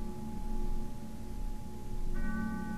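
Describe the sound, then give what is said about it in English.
A church bell rings from afar, its sustained ringing tones hanging over a dense low rumble, with a fresh strike adding brighter overtones near the end. “In the distance, a church bell chimes and stops the cloudless rain.”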